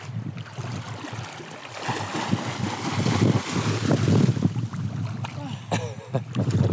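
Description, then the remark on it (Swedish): Steady wind rushes across open water where people are swimming, a continuous low rumble buffeting the microphone, with splashy texture and faint indistinct voices in the background. “Det är varma i, det är varma i vattnet. Ja, det är det absolut. Och så är det vinden.”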